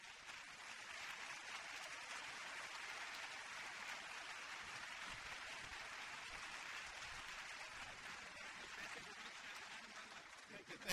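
A crowd claps steadily for around eleven seconds, welcoming a pianist, a dense, even wash of applause that neither builds nor fades.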